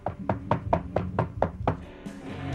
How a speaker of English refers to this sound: begins pounding on the floor.